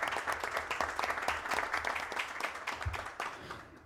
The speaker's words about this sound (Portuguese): Quero aqui dar uma salva de palmas a todos os funcionários da casa.